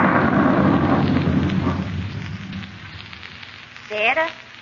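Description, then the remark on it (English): A thunderstorm with a heavy, rolling rumble of thunder over steady rain, loudest at the start and easing off, then a brief vocal sound near the end. “Well, I'm going in. I don't like storms.”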